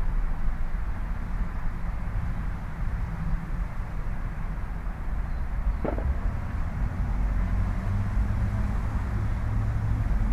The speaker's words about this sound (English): Pretty noisy neighborhood, lots of traffic going down the road, and there's a freeway about two blocks away too, so pick up a lot of car and truck and motorcycle traffic.